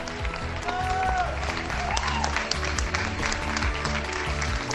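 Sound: neighbourhood applause from balconies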